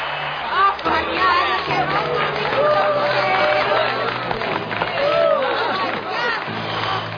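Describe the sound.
A big, standing stadium crowd at Sun Devil Stadium roars and cheers as a player gets up on his feet on the field, a steady, loud wash of many voices with shouts and whoops rising above the din for the whole stretch.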